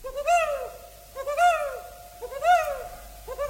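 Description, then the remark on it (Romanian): Small birds chirping in a forest clearing in the forest near Amiens, with clear, rising-and-falling calls repeating about once a second, steady, with no talking. “A trecut prin Blois, prin Noisy și s-a oprit tocmai în pădurea de lângă Amiens, într-un luminiș păsărele.”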